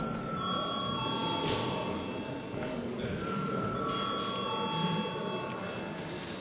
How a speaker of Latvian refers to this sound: Paldies, lūdzu zvanu.